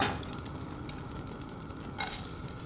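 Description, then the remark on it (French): Onions sizzle steadily as they brown in a small saucepan, a continuous crackling hiss with a brief sharper pop near the end and no one talking. “Les faire blondir dans une petite casserole.”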